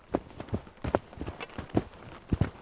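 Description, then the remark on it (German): Skis stamping down into snow with a series of dull, crunchy thuds in an uneven rhythm, about eight or nine impacts, with no voices, as two people on a mountain ridge trample a launch spot for a drone into the snow. “Oben am Bergkamm angekommen, trampeln sie als erstes mit ihren Skiern einen Startplatz in den Schnee.”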